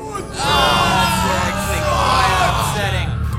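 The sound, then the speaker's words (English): A voice imitates a five-mouthed monster hit by a thrown vial of fire, letting out a loud, sustained scream of pain from all five mouths, harsh and wavering with layered overtones, holding for about three seconds. “One of them screams in pain of all five of its mouths.”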